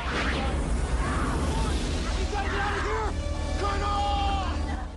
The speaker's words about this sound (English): Riley and Todd man the ship's controls as the loading bay door closes. Meekum clings to the rising door as the ship's thrusters ignite.